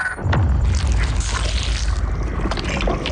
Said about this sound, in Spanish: Atención. Atención. No se asusten por estos ruidos. Son dos dinosaurios vivos.